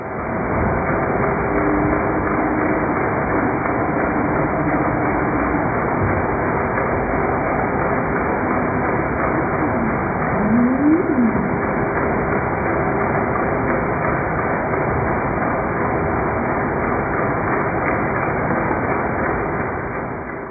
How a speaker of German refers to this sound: Aber man hört auch Rossrobbe. Und ich glaube, es sind auch ein paar Seeleoparden zu hören im Hintergrund. Also Robbe mit Lärm. Und zwar Lärm von nur einem Schiff, ne? Ja, es ist nur die Polarstern.